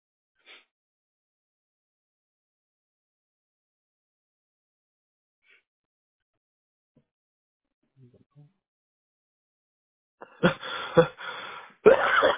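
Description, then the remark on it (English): After a long near-silent stretch with a few faint ticks, a man with seasonal allergies lets out a loud, harsh sneeze, followed by a second forceful burst at the very end. “Ooh, God bless you, sir.”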